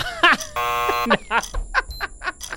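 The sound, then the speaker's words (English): A loud, harsh game-show buzzer blares for about half a second, signalling the timer running out in a celebrity guessing game, with people talking just before and after it. “I'm just going to let the timer run out there.”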